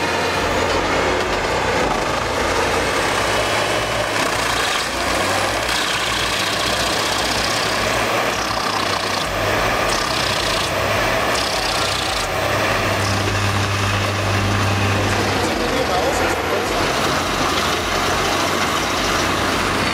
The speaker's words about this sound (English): This powerhouse has a 780 horsepower cat engine, a massive drum, and an energy-saving design. Plus, it's mounted on a man truck with an Epsilon crane that can reach incredible heights.